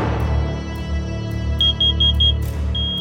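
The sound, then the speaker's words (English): A carbon monoxide detector alarm in a house goes off in the middle of the night, sounding a rapid run of about six shrill, high beeps, then settling into a steady high tone, all over a low, continuous background rumble. “I figure out that it's the carbon monoxide detector”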